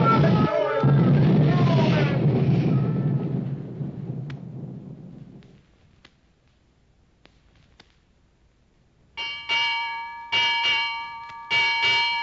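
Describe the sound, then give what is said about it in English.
A ship's bell rings six times in three quick pairs, clear and ringing, after a heavy rumbling roar like crashing water or thunder fades into near silence. “Six bells and all's well.”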